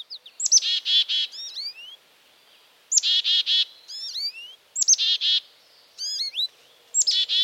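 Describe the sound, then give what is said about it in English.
Birds sing and chirp in quick, repeated bursts of bright, high notes and rising whistles, phrases returning every couple of seconds with brief pauses between, no voices present. “And if the bustle, color, and sounds of the birds don't break the dark mood”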